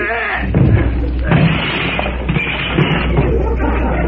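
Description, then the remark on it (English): A stuck front door of a house being pushed open by people: repeated loud thumps and bangs as it is shoved, with rattling and scraping between the jolts across a few seconds. “Oh, I always have trouble with that darn door.”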